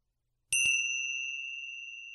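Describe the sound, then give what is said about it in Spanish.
Small bells are struck twice in quick succession at the close of a meditation practice, then ring out in a bright, sustained shimmering tone that slowly fades. The chime is clear, with no talking. “Y al sonido de las campanillas puedes abrir los ojos y comenzar de nuevo las actividades del día.”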